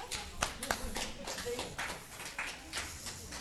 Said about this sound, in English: You guys can sit down. Thank you very much. Thank him and give him a clap.